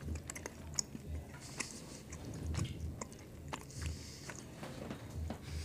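Chewing on a piece of Green and Black 70% chocolate during a chocolate tasting, with soft repeated crunches and wet mouth clicks in a steady rhythm, no talking.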